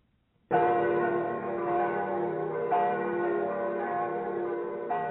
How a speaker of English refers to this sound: We could hear them in the not-too-far distance, the bells of Rome.